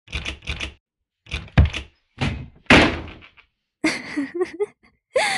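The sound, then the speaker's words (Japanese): Heavy pounding on a closed door by someone demanding it be opened: irregular bursts of loud thuds, some in quick pairs, separated by short silences. Later blows bring a rattling, creaky ring. “早くここを開けてくれない？君を私の家に連れて行くには、この扉は邪魔なんだ。”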